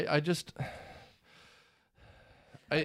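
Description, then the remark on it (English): Heavy, breathy exhales and inhales sound close to the microphone, about three long airy breaths in a row, with brief voiced sounds at the start and end. “I know I'm breathing heavily into the microphone”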